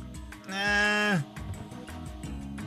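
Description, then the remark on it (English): A person lets out one loud, drawn-out goat-like bleat lasting under a second, its pitch sliding down at the end, with quieter background sound continuing afterward. “Was that a goat impression or was that a reaction?”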